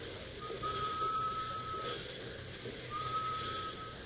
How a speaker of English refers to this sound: Excited now at the prospect of being close on the trail of a man Bill King says is gifted with strange and mysterious powers, Hop and the young reporter follow the sound of the whistle.